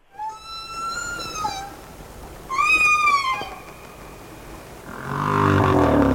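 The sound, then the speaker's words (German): Two drawn-out whale calls, high and squeaky like a creaking door, each bending up and then down in pitch, followed by a louder, lower rumbling groan to finish. “Ja, das klang erstmal wie eine quietschende Tür, aber es ist ein Wal.”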